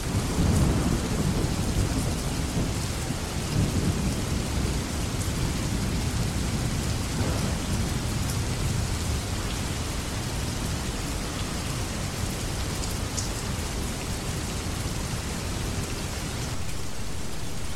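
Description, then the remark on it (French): Heavy rain pours down steadily and loudly for the whole stretch, a dense unbroken roar with deep rumbling undertones like thunder, and no voices. “que je vous propose sur le thème d'une fin du monde avec beaucoup, beaucoup, beaucoup de pluie.”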